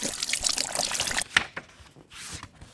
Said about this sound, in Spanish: J'utilise l'eau du robinet pour me laver les dents, me baigner, laver la vaisselle, arroser le jardin.